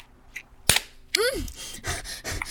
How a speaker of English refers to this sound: I'm your favorite, right? Yeah? Slap my ass again and tell me I'm your favorite.